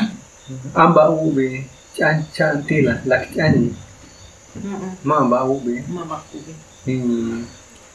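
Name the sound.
crickets chirping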